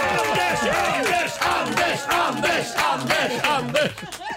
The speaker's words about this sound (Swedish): En liten applåd för Anders Lundin.